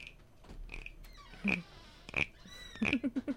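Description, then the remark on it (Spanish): A small wooden frog rasp, whose back part makes the sound, scraped several times, producing short ratchety croaks, with louder strokes near the end and a quick run of clicking pulses to finish. No one speaks. “Es una ranita, de madera, tal parece. Y la parte de la espalda es lo que hace el sonidito.”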